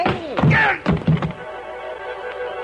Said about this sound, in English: The front of his gun snapped against the side of my head, and I went down to my knees.